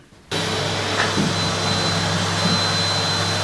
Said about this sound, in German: Okay, gewischt. Jetzt geht's an den Staubsauger. Genau.